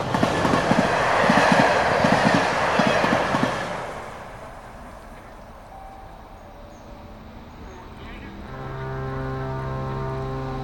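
A train rolls loudly over the rails with a rhythmic clickety-clack, then quiets to a low rumble before a steady, droning tonal whine rises near the end.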